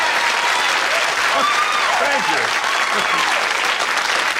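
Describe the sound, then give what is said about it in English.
An audience applauds steadily for several seconds, a dense, even wash of clapping at fairly high volume, with faint voices mixed in underneath. “Believe me, it's nothing to applaud about.”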